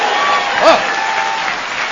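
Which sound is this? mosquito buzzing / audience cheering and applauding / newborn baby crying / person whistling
audience cheering and applauding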